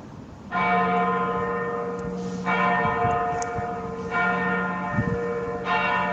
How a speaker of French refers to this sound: Les cloches, un pigeon. On est bien à Cracovie.